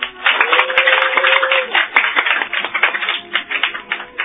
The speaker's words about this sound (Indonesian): Biarkan mereka bertepuk tangan berkepanjangan dan dibarengi suasana yang tidak karuan.